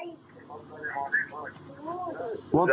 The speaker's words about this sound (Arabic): وطي صوت التلفزيون